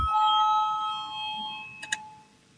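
parliament voting bell ringing

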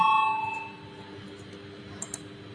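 parliamentary voting bell chime

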